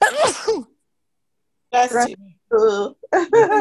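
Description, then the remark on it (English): A single loud sneeze bursts out at the start, followed after a short pause by a voice making brief vocal sounds. “When somebody sneezes and you want to tell them.”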